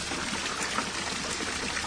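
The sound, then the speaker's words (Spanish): Water splashes and patters in a steady, hissing spray, even in loudness, as holy water is sprinkled during the blessing of a place with gardens, with no voices over it. “Cuidado, que va un poquito de agua.”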